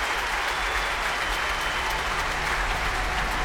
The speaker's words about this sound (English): I think this applause could go on for quite some time.